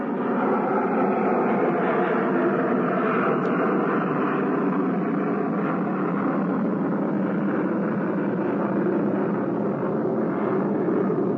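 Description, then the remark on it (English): A steady, broad roar of airplanes passing overhead fills the whole stretch, loud with little rise or fall, and no voices over it. “I hesitated to read the rest because of the airplanes passing over.”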